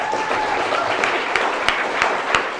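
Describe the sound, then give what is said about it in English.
A crowd at a hip hop event applauds steadily for people who drove out from San Francisco, a dense wash of many hands clapping at once, with a few sharper, louder claps standing out at irregular moments throughout. “So everybody give a round of applause for … for coming out.”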